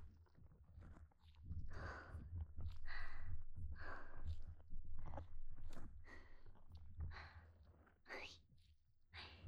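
Wet squelchy munching right at the listener's ear, a steady run of soft chewing bursts about every half second, with a low constant rumble beneath and no talking.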